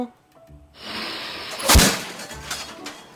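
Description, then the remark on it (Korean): A puffed rice (ppeongtwigi) popping machine at the busy Bongpyeong market day in rural Korea bursts open with one loud, booming bang, followed by a rushing hiss of escaping steam against busy background noise. “뻥이요 소리와 함께 뻥튀기 터지는 소리가 요란하다.”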